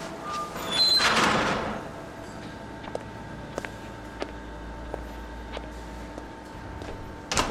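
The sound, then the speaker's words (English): A control room door slides shut with a brief rushing sweep near the start. After it, faint clicks tick at a steady pace over a low hum, with no voices. “Curtis followed me in and closed the door, standing in front of it.”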